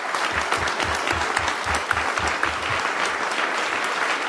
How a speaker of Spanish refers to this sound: Sí, merece un aplauso.